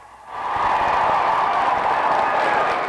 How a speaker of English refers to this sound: The students showed they're not letting their tradition go. Then came the applause.